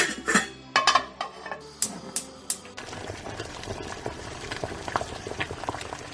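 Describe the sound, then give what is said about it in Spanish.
Home kitchen bustle as dishes are prepared ahead for the Christmas Eve meal, with sharp clinks and clatters of pots and utensils in the first few seconds, then a steady bubbling of a pot at a rolling boil, fairly loud. “Son las cocinas que empiezan a funcionar a pleno rendimiento, adelantando platos para poder componer uno de los menús más especiales del año.”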